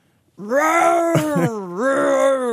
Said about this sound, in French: On entend aussi des bruits d'ours.